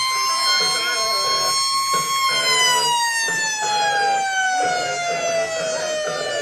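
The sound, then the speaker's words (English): A loud handheld siren wails continuously at a stadium entrance as a football team comes on, its pitch steadily winding downward over several seconds, with crowd noise and voices murmuring underneath. The man sounding it wears headphones. “And the funny thing is, the guy with the horn, with the siren, he's wearing headphones.”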